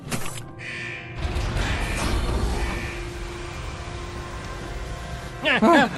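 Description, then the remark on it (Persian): A heavy mechanical airlock is opened slowly, with a sustained whooshing hiss and low rumble lasting several seconds, fairly loud and steady, followed by a brief vocal sound near the end. “هوابند باز کن، یواش یواش میخوام زجر کشیدنشو ببینم.”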